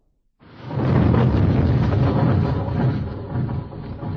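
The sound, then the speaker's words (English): Snowplows grinding forward on the other side of a barrier of snow: a deep, heavy rumbling roar that swells in abruptly after a brief silence and holds steady and loud, with no voices over it. “Do you hear that? That is coming from the other side of the barrier of snow. Rescue is on its way, mes amis.”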